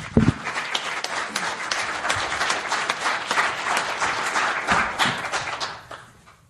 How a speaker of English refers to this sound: Fantastic. I think we have a round of applause for those people, please.